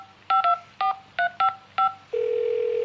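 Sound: telephone number being dialed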